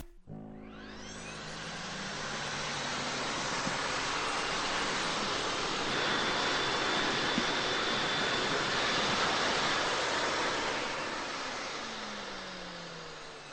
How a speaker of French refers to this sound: Et enfin, L'aspirateur de Mademoiselle Nickelchrome, qui est resté dans l'entrée, selon lui, n'aspire pas assez.